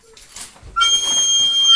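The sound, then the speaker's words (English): A steady, high whistled tone starts partway through and holds to the end, fairly loud over a rustling, busy background, with no one talking. “I can hear that whistle.”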